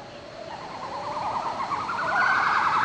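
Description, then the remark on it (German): Monkeys singing: two females give high, rapidly warbling calls that climb in pitch and swell louder, while a male voice answers and overlaps them over a steady hiss of background noise. “Zwei Weibchen. Und das Männchen antwortet. Also das hätte ich gar nicht in Affen vermutet, aber das ist ja offenbar gerade das Besondere.”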